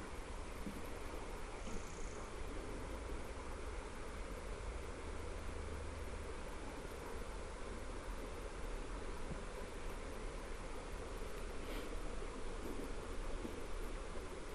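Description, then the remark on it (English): Steady, continuous rush of river water flowing along a riverbank, heard while passing over a little wooden bridge, a broad even wash of sound with no breaks, heard on its own without voices. “And my first sighting of the river.”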